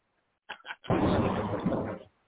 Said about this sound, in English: They fucking out here doing fireworks and shit. They wild right now. They're doing fireworks right now, man.